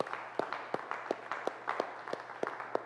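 A round of applause for a church audience, a dense patter of clapping with sharp, evenly spaced claps standing out in a steady rhythm, moderately loud and with no talking.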